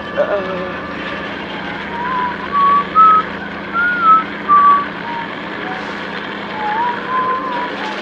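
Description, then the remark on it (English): Someone whistles a short, bouncy, cheerful melody loudly in a few clear phrases, the notes rising and falling over a steady low rumble of background noise, with a brief trailing phrase near the end. “Don't stop whistling. Nice and loud now.”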